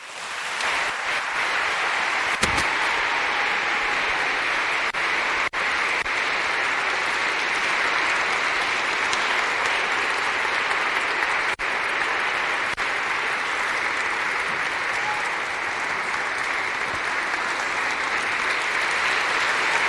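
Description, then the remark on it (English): Sustained audience applause at a book event welcoming authors Roxane Gay and Viet Thanh Nguyen: a dense, steady wash of many hands clapping at a constant loud level for the full twenty seconds, with no speech over it. “I hope that applause is for my orange socks.”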